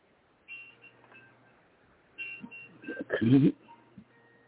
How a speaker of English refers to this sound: There's all kinds of alarms going off, alerts.